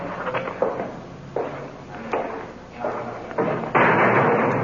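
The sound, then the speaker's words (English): A heavy iron door on the way to a police booking desk clanks and thuds several times at uneven intervals as officers bring a suspect through, then slams shut with a louder final bang that rings on. “Through the big iron door sign.”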